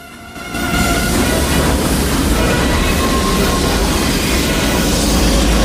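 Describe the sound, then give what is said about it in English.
A heavy armored train, a tank clamped inside one of its armor-plated rail carriages, lurches into motion at night, its deep, continuous rumble and metallic grinding swelling up after a brief quiet start and holding loud throughout as it gathers speed. “As a single gargantuan armored train, it begins to move forwards.”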